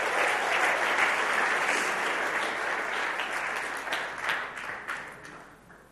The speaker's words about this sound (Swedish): Ge dem en stor applåd. De har varit underbara.